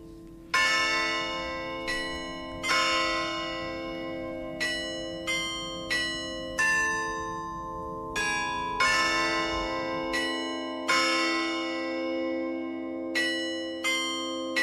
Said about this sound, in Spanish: Aquí no hay tanta tradición, pero hay países como Alemania que sí tienen una tradición de conciertos de campanas, ¿no? Es encontrarse al aire libre y, bueno, disfrutar de estos sonidos.